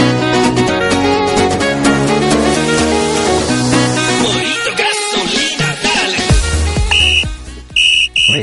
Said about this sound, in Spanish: Ese silbato, eso es todo